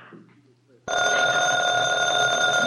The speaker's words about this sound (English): The phone. I'm not going to answer. I've got enough on my mind.